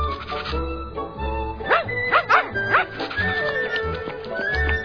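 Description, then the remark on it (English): A small, new cuddly puppy gives a quick run of four or five high, squeaky yips, clear, over a steady background of music. “Because I bought you this new cuddly puppy.”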